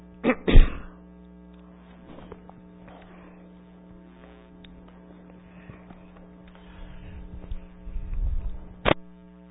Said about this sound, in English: Coughing helps sometimes to clear it up a little bit, so apologize, but I will cough throughout this.